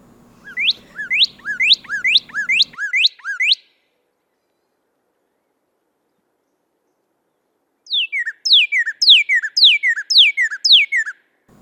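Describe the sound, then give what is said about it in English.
A northern cardinal sings loud, clear whistled notes, each sliding steeply downward, in two quick series of six or seven separated by a few seconds of silence, with no talking. “In summer, their sweet whistles are one of the first sounds of the morning.”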